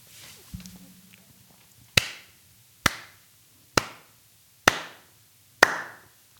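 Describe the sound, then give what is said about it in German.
Five sharp hand claps at a steady, unhurried pace, each crisp with a short ringing decay, preceded by a brief low hum and otherwise quiet background. “Du musst klatschen.”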